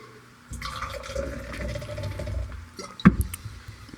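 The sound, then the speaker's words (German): Water is poured steadily into a glass for a few seconds, a gurgling fill that ends with a sharp clink of glass. “Ich glaube, ich muss mit Wasser noch spielen.”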